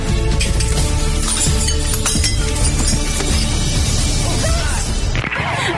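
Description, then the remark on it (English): Glass shatters loudly, a dense crash of clattering and clinking shards that keeps going for several seconds before cutting off abruptly near the end. “I don't know why the glass breaking was the funniest part.”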